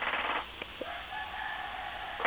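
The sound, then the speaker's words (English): A rooster crows once in the background, a drawn-out call heard over a steady hiss of outdoor noise, with no talking. “Roosters that I hear crowing behind you.”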